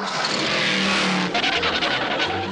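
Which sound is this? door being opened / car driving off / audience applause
car driving off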